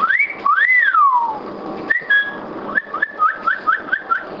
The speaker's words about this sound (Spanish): Hola, soy Mauricio, la voz sintética masculina de Dos Voz. Te cuento que sé cantar. Y también silbar.